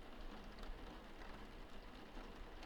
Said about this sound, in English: I think the rain created white noise that just put me out. It's still going on really hard out there. It must have rained all night. It's nice, actually.